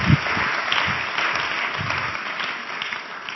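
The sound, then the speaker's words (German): A crowd applauds two people steadily, a dense wash of overlapping claps at an even loudness throughout, with no voices standing out above it. “Geben wir den beiden einen Applaus.”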